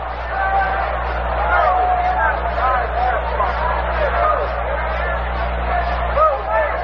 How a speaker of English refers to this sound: Pitch is in there for a called strike. It's 2-1, and the roar you hear is an appreciative reception from the crowd of the first strike of the ball game.